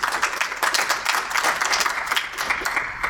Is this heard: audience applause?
yes